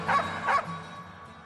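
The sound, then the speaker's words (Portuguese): Two quick dog barks in a row, moderately loud, followed by a brief low, fading tail with no talking. “Os cachorros vieram e entregaram para cada bicho sua carta de reprovação.”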